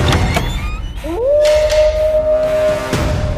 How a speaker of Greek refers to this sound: Τότε ο Λύκος, με μια δυνατή κραυγή και όλη του τη δύναμη, όρμησε μέσα στο σπίτι.